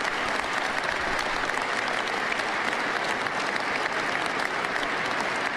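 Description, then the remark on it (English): A crowd at an inauguration speech claps steadily for several seconds after a pledge to designate the cartels as foreign terrorist organizations, a dense, even wash of applause that stays loud throughout with no voices standing out. “Why applaud that?”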